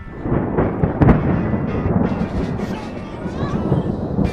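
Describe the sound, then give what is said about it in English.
A low, continuous rumble of thunder from a storm passing through in the afternoon rolls throughout, with a brief sharper swell near the start, while faint voice-like sounds drift in toward the end. “Fortunately, we've had a storm come through this afternoon.”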